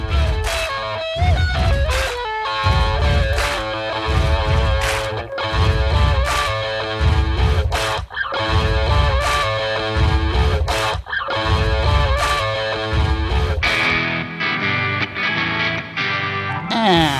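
A loud, layered stomp-stomp-clap rhythm repeats steadily throughout. It is made by four band members stomping and clapping in a recording studio, layered so the heavy thuds and sharp claps sound like hundreds of people, mixed under dense, distorted music.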